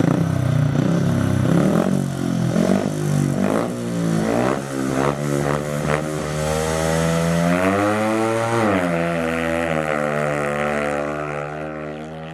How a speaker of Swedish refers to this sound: och jag glömmer aldrig de där första stunderna på motorstadion när man inser att här kommer de dundrandes i 110 km i timmen och snabbare än det ibland på motorcyklar utan bromsar.